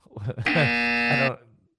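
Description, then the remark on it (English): A loud, harsh electronic buzzer, sounded for a bad joke, blares in one steady, flat tone for almost a second, with a person's voice briefly heard just before it and as it cuts off. “Yeah, that's a buzz one.”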